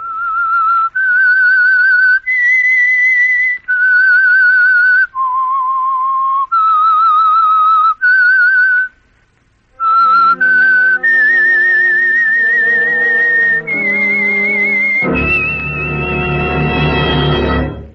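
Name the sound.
whistled theme melody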